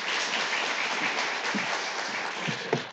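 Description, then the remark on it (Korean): A church audience applauds to welcome a pastor coming forward to preach, steady for the full three seconds, a dense wash of many hands clapping at an even level, with a few sharper individual claps near the end. “우리 목사님 보내주신 하나님께 감사의 박수로 우리 환영하도록 하겠습니다.”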